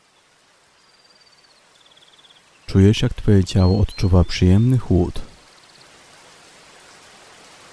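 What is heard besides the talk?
heavy rain falling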